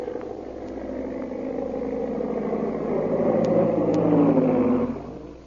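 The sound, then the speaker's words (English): A big black seaplane circles for a landing at a plantation. Its engine drones steadily, a low buzzing hum that slowly swells louder and then drops away at the end. No voices are heard. “Meanwhile, back at the plantation, a big black seaplane circled for a landing.”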